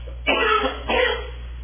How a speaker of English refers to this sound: Now, pardon me for a second as I cough yet again.